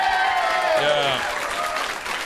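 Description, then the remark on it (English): Steady audience applause as comedian Bert Kreischer is introduced, a dense wash of clapping with some voices and whoops mixed in, holding loud throughout and easing off slightly toward the end. “Nobody was fake applauding before.”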